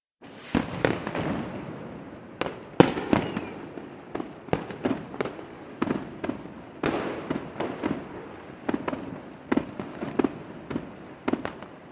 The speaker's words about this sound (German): Da erfanden die Chinesen ihr berühmtes Feuerwerk mit den roten Raketen, Böllern und Knallfröschen.